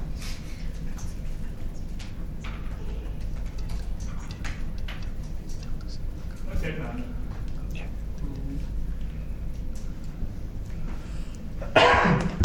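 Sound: sneeze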